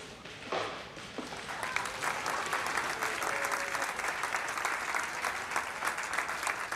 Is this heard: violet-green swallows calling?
no